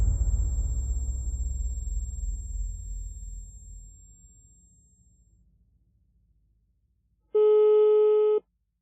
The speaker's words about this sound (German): ist am Telefon und versucht, Norbert Siegmund zu erreichen. Das ist einer von den Journalisten, von denen wir vorhin gesprochen haben.